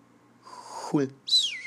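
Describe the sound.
A voice imitates a whistling teapot: a low breathy hum slides downward, then a short, shrill, high whistle that rises sharply and slowly sinks, loud.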